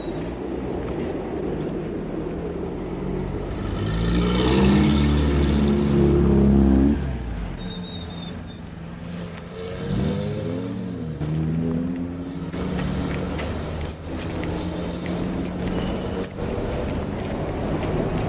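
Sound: subway train rumbling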